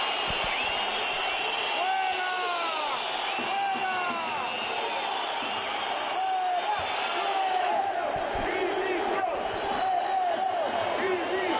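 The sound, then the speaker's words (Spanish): A large crowd of Real Oviedo football fans at the Tartiere stadium shouts and boos loudly and without pause at their team after a 0-1 loss to Leganés, shouting for David Generelo's resignation, with sliding jeers and shrill whistles rising above the steady roar for the whole stretch. “Decepción y enfado con los jugadores y gritos pidiendo la dimisión de David Generelo.”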